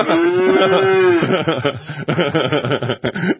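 A voice imitates a cow with one long, steady moo lasting about a second, loud, then breaks into chuckling laughter and snickering.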